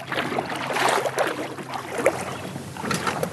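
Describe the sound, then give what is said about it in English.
Canoe paddle strokes in the Au Sable Marshes, a delta between the Au Sable River and Lake Champlain, on a green, humid day: strokes dip and swish through water in a loose, uneven rhythm, with a few bright splashy drips over a steady wash of moving water and light breeze. No voices. “Already just a few paddle strokes from the road, it's green and humid.”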